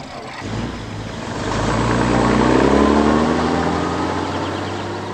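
A truck engine rumbles steadily as the truck goes to town, its low drone rising in pitch and loudness as it revs up around the middle, then settling back while continuing to run. No voices.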